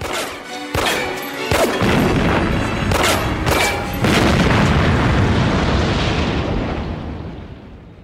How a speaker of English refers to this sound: he starts just firing a handgun in the direction of the cop car and then it explodes